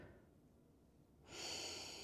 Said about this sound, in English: That's another sniff. It smells good. Lightly floral.